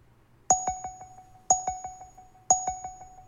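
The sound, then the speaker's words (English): A countdown timer effect: three bright metallic dings spaced a second apart, each trailed by a few quick, fading ticks, over a faint low hum with no one talking. “Somebody's getting wound down on the clock.”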